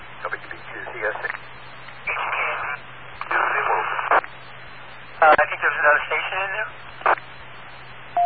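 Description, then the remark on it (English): Thin, telephone-filtered line sounds come in a series of short bursts, some holding steady electronic tones, like a phone being dialed and connecting, with a low constant hum underneath. “Let me make a quick phone call.”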